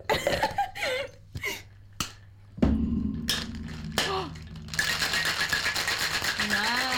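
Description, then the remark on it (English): A few clinks and clatters as ice is added, then a cocktail shaker full of ice, held next to the microphone, rattles in a fast, steady, rhythmic shake that continues loudly to the end, with brief talking early on. “Oh, shaking. Get that shit next to the mic. Yeah. Here's some ice.”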